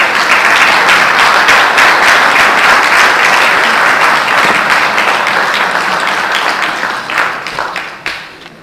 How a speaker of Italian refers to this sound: secondo me merita l'applauso che abbiamo appena fatto, perché oltre a sapere le cose le sa anche dire raccontandole e quindi è più facile anche assimilarle.